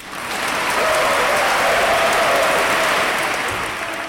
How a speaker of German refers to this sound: das Publikum hat mitgemacht, wie sich es an einem rechten Slam gehört, mit lautem und herzlichem Applaus